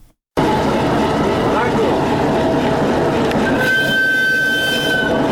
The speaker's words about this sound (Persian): برای اولین بار یک قطار انتقال کالاهای چینی با طی نمودن 3000 کیلومتر راه از طریق قزاقستان و ازبکستان وارد افغانستان شد. این محموله کالاهای تجارتی به تاریخ 25 آگوست در شهر همنه کشور چین به سوی افغانستان حرکت کرد و امروز به بندر تجارتی حیرتان